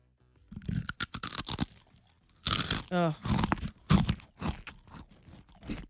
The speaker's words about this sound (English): My son does this thing where he'll take one Cheez-It and he'll bite it 6,000 or 7,000 times